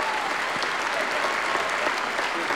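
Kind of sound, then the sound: crowd, audience applause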